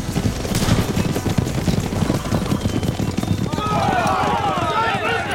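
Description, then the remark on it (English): A dense volley of rifle gunfire from vaqueros firing into a rank of men blocking a road crackles nonstop, shots overlapping in a rapid barrage, while shrill, wavering cries rise over the din near the end. “The vaqueros sent a storm of hot lead into the rank that partitioned the road.”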